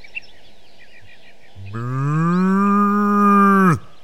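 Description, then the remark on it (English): A cow gives one long, loud moo lasting about two seconds, steady before cutting off abruptly, with faint bird chirps in the quiet background beforehand. “If I'm not wrong, this is a... A cow. I'm a cow.”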